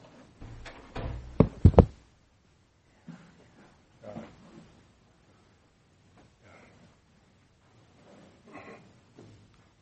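A door is shut with a couple of sharp, loud knocks and a thud in quick succession, followed by faint shuffling and soft movement noises in otherwise quiet surroundings.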